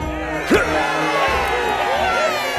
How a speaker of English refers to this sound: Clap and cheer and chant this chant.